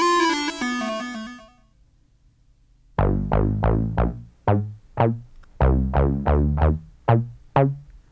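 Funk music with a punchy ARP Odyssey analog synthesizer (released 1972) bass riff playing short, staccato notes in a loping rhythm, preceded by a brief buzzy electronic tone and a moment of silence.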